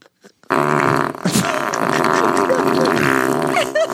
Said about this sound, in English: He's farting on his food. Just for good luck. That's he does have dirty underwear. Yes, yeah. And he's farting on the food that he's going to eat.